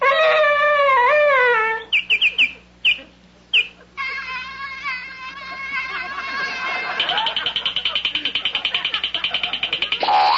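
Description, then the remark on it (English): A dog howls and whimpers, long gliding whines broken by a few short yelps, then a sustained, rapidly wavering whimper that carries on loudly to the end. “That's the dog that hangs around supermarket parking lots and begs for Twinkies.”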